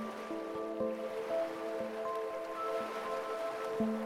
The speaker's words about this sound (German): Du hörst das Rauschen des Meeres.